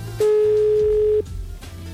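A telephone call being dialed: one steady, mid-pitched ringing tone holds for about a second and then cuts off, over a quiet background music bed with no talking.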